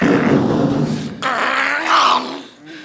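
A dog growls and snarls loudly while biting a person's hand, a rough, continuous rumble that rises into sharper, strained snarls for about three seconds with no talking.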